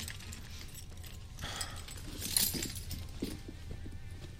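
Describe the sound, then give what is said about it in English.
A ring of keys jangles in a few brief metallic bursts, the loudest rattle near the middle, over a low steady background hum, with no one talking. “You think I have enough keys now? I'm like a jailer.”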